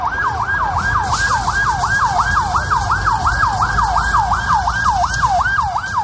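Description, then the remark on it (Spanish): An ambulance siren wails at night in Amismis, at the foot of the Atlas, in a rapid, continuous rising-and-falling yelp, loud and steady throughout, with a low rumble of road traffic underneath and no voices. “El silencio de la noche solo se interrumpe por el sonido cada vez menos frecuente de las ambulancias.”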